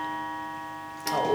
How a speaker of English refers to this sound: Oh, bother. Don't worry, we'll talk through that. We'll just talk a little louder. Don't worry. It's definitely 11 o'clock and it's going to chime for another 7 or 8, but don't worry. We'll just keep going.